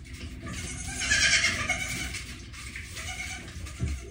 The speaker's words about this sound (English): and those are goats.